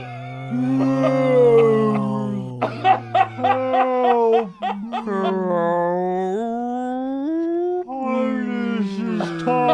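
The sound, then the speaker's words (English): A person's voice makes long, warbling, whistly calls that slide up and down, imitating a beluga whale, loud with a few breathy breaks between phrases. “He looks dolphin-y, though, that beluga. You like went right for the impression.”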